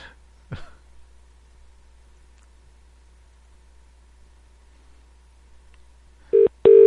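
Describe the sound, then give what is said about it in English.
A telephone begins ringing near the end, loud electronic tones bursting in after a long near-silent stretch, with a short throat-clear or knock early on. “I gotta take this phone call really quick.”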